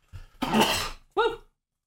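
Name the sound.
sneeze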